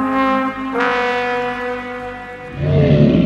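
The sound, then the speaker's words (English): A loud, brassy horn blares a taunting sustained note rich in overtones, jumps to a higher pitch partway through, then drops into a rougher, lower blast at the end. “He blew another taunting note on his horn.”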